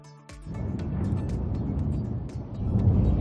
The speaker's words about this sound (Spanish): Y te despertó la tormenta esta noche. Algunos se han saltado de la cama debido a sonidos como este.